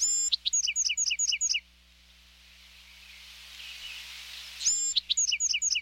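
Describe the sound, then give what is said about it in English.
A Bewick's wren sings a bright, buzzy song of quick repeated trills, pauses amid soft airy hiss, then launches into the same rapid phrase again, clear. “Each adult male Buick's wren has his own set of songs.”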